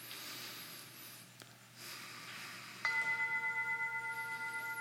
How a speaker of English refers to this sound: And I just continue to breathe deeply in and out of my nose.